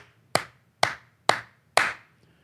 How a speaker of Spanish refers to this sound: Entonces, él dice, suponte que tú tienes un árbol atrás en tu jardín que quieres cortar. Un día te levantas, sales de tu casa, tomas un hacha, vas al árbol y le das 5 veces.